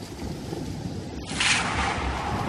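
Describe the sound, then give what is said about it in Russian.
Steady roaring wind and rain noise fills the scene, swelling into a louder, brighter gust halfway through, with no voices present. A storm with hurricane-force gusts and pouring rain on a mountaintop during a solar eclipse. “Во время солнечного затмения настала буря. Бхакта Нараян забрался на вершину горы побороть страх. Он вытерпел порывы урагана и проливной дождь.”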